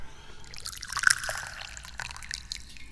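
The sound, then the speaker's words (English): Che Guan Yin tea trickles from a nearly empty teapot in a thin, uneven stream, with light splashing and dribbles, fairly quiet and tapering as the pot runs low. “And that means it's time for me to pour some tea. Wow, there's barely any left in this teapot.”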